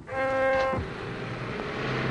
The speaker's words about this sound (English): A truck carrying German troops speeds through the camp gates.